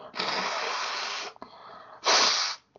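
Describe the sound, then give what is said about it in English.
Someone blows their nose: a long, forceful honking blast, a brief softer snuffle, then a second short, louder blow before it stops. No talking. “I'm going to blow my nose.”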